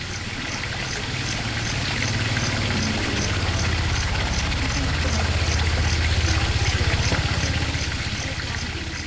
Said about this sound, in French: Ronronnement des bateaux dans le noir.